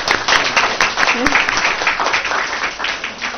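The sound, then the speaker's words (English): Applause for people who waited, many hands clapping in a dense, steady patter that holds at a fairly loud level throughout, with a brief voice or cheer poking through midway. “So thank you so much, and I'm going to applaud all of you guys for waiting so nicely.”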